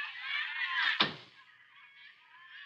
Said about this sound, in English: Just hang on the phone a minute while I close the door here so as I can...